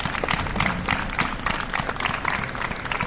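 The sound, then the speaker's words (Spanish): A crowd in the Plaza del Mercado Chico breaks into steady, sustained applause after a minute of silence for the 40 people killed in a railway accident, many hands clapping densely at once with an open-air sound and no voices standing out. “Así sonaba el aplauso posterior al minuto de silencio de la Plaza del Mercado Chico.”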